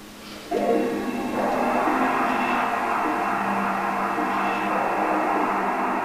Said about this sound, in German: Was muss er jetzt machen? Warten, bis der Ventilator aufhört.